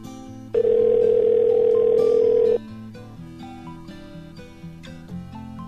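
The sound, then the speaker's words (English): A loud, steady telephone tone sounds once for about two seconds over a bed of soft background music, like a call ringing through on the line to a Market Basket store, number 146. “Maybe it's like in Fight Club where they just pick up the phone and answer with 146.”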